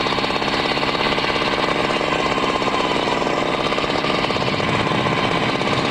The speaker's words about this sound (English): they take another sample with the drill attached to Tom's truck